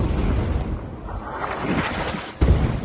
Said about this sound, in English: Explosions in Rafah hitting the tents of displaced Palestinians pressed up along the border with Egypt.